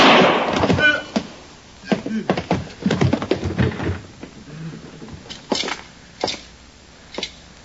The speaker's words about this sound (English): I'm hit. I'm going to die. I had to shoot, Hawkins.